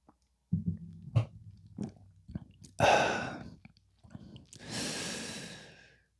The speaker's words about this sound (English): Okay, so yeah, had to get that first sip.